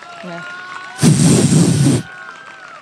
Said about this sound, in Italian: Vorrei un applauso qua per favore.